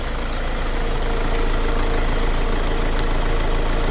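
An engine idles steadily in a car repair workshop in the northern industrial estate (polígono norte) of Seville, Spain, a continuous low rumble with a faint knocking texture and broad mechanical hiss, holding an even loudness throughout with no voices.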